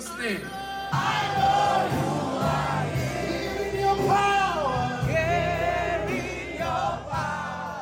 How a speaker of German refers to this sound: Das Publikum klatscht und schreit in Ekstase.